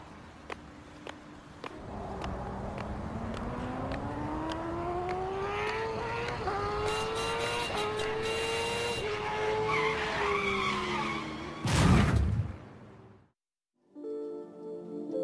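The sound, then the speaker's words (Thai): A speeding car on a busy road by a zebra crossing roars in, engine pitch sweeping upward, then tires screech in a long skid ending in a sharp loud burst before a sudden silence and low rumble. “วันนี้รถเยอะจังเลยแถมยังขับเร็วมากๆด้วย”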